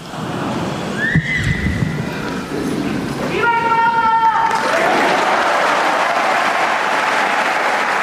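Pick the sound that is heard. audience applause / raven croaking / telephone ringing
audience applause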